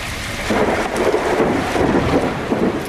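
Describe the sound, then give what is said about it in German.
A thunderstorm with steady rain hissing and a deep rumble of thunder rolling underneath, fairly loud and continuous, with no voices. “Ich habe ein paar da, zum Beispiel von einem Gewitter.”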